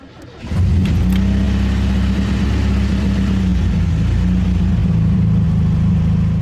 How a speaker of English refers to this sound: I leave the building and head towards my Suzuki. I get in and start the engine.